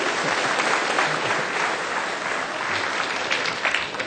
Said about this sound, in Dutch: Geeft u een daverend applaus voor deze Romeinse soldaat.